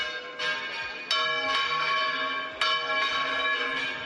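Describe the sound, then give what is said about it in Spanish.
Church bells in Zamora, Spain, peal in a steady, ringing cascade, with several bright overlapping strikes every half second or so, each leaving a long shimmering hum. Moderately loud, no voices. “Repique de campanas para recordarte que el patrón de Zamora es San Atilano”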